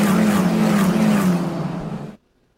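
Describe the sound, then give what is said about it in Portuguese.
A loud, high-pitched single-seater race car engine screams past, its pitch sliding slightly downward as it moves away, then cuts off abruptly into silence. “Deixa eu até tirar a trilha, porque vai ser diferente agora. Quer ver, ó? Monopostas.”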